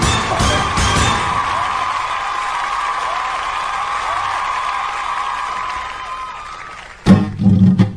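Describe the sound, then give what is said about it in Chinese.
A live audience bursts into sustained applause with cheers and whoops, welcoming a Lanzhou kuaiban (clapper-talk) performance: a dense, loud roar of clapping that carries on steadily before tapering, then a brief louder burst near the end. “好，那么这样，别的咱们不多说了，咱们还是 掌声 来欣赏节目吧。”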